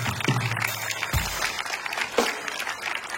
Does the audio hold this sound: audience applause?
yes